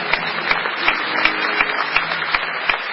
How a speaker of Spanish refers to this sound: Los vamos a despedir con un enorme aplauso a todos. Muchas gracias.